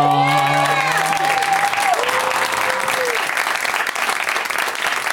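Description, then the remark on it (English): A show audience applauds loudly and steadily for about five seconds as four guests are welcomed, dense clapping filling the whole stretch, with a few sustained tonal notes and sliding pitches ringing out at the start before fading. “Please give it up, everybody, for”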